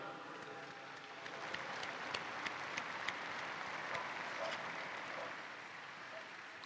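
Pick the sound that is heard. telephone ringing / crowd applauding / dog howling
crowd applauding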